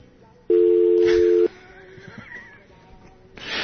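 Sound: telephone call tone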